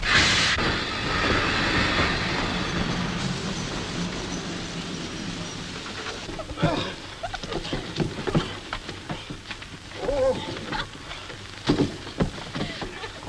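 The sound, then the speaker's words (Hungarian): A train grinds to a halt on the open line after its emergency brake is pulled, with a sharp, high screech at first, then loud rumbling that fades over several seconds, followed by quieter scattered clunks and knocks once it has stopped. “Na ugye, hogy megállt? Miért húzták meg a vészét?”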